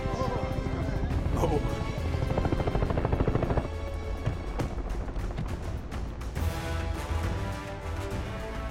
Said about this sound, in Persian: اوه، این دیگه کیه؟ بچه هلیکوپترم دارم. چه خبره؟